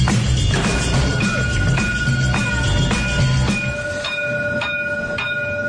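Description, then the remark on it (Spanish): A tram rolls along rails, with a steady low rumble, rhythmic clacks over track joints and thin sustained squealing tones from the wheels. “Antes de irnos, ¿qué les parece si nos subimos al tranvía y nos damos una vueltita por los comercios”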